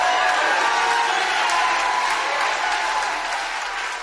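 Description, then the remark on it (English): A large crowd of Republican supporters at a political rally cheers and applauds steadily for several seconds, a dense, loud wash of clapping with shouts and whoops rising out of it, easing only slightly toward the end. “A lot of cheering there.”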